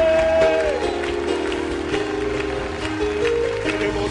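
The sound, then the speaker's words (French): An audience claps steadily along with worship music, a dense wash of hand claps over a sustained, slowly stepping sung melody, loud and continuous throughout. “je battrai les mains, parce qu'avoir deux mains, ce n'est pas un acquis, c'est un don de Dieu.”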